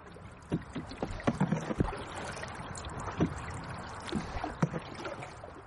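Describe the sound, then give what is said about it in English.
A boat moves along the Blackwater River between Lismore and Capoquin, water washing steadily against the hull with irregular splashes and knocks from oars or paddles, moderately loud, no voices. “runs boat tours of the Blackwater River, mostly between Lismore and Capoquin.”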